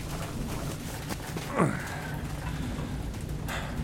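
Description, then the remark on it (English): Steady rain falls throughout, heard from a doorway, with a dense, even hiss and soft patter, interrupted briefly by a louder descending swoosh partway through before the rainfall continues alone. “Let's just stay in the doorway. It'll do till the rain passes.”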